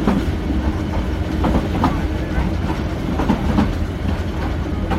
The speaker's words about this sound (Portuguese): Neste comboio passei 15 horas para chegar a Sipó, vindo de Mandalay.